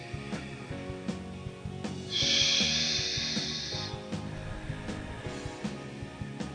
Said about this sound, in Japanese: お腹に両手を当ててくださいね、 はい、 で鼻で吸ってください。 だよ、 はい、口から吐きます。で吐くときにお腹がへこむイメージですね。